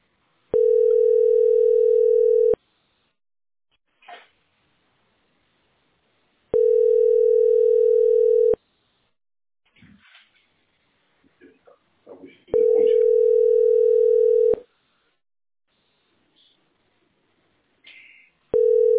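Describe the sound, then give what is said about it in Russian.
Long, steady telephone ringback tones of a call to a city landline number repeat three times at regular intervals, each about two seconds long, with faint rustling and soft background noises in the gaps and no one picking up. “Да, поэтому не берут.”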